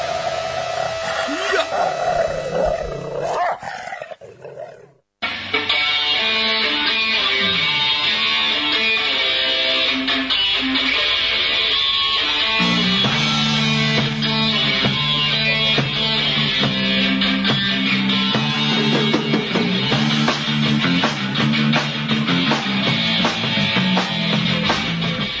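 Loud, dense hard rock or heavy metal by a pioneering hard and heavy band from Bolívar plays nonstop after a brief break near the start, with a wall of distorted guitars and a full band sound dominating the whole stretch.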